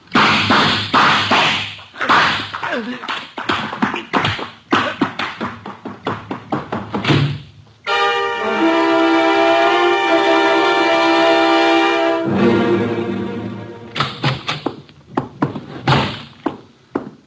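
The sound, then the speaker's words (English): Sharp, loud bangs of a door slamming shut come in quick irregular bursts, broken midway by a long steady horn-like tone before the banging resumes. “Archie, you know I dislike the banging of doors.”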